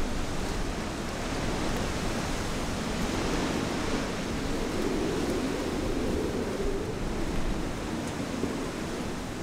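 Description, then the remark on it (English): Strong storm wind roars steadily and loudly throughout, howling through the town on Tangier Island at 40 or 50 miles an hour, a dense, unbroken rush of noise with a low rumbling swell in the middle and no voices. “The storm's blown in, and the wind is howling through the town at 40 or 50 miles an hour.”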